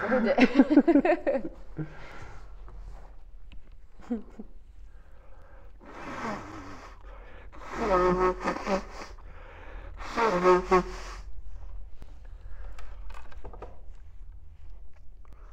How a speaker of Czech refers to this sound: Musím se vysmrkat, jo, takže jo, asi pauza.